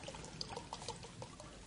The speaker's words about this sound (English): Just a great time for me to pour myself some water.